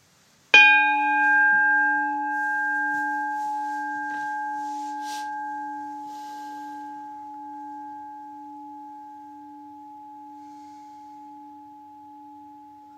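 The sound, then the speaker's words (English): A meditation bell is struck once to begin a guided meditation, its clear, steady tone with bright overtones slowly fading over about twelve seconds. No one speaks. “And we will start and end with the bell.”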